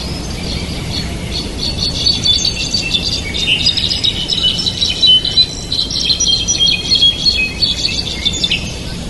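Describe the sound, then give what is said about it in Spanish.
A brown-backed solitaire (jilguero) sings continuously, a fluid, high stream of bright warbled and trilled notes over a steady background hiss, clear, with no voices. “Enseguida vamos a escuchar un jilguero.”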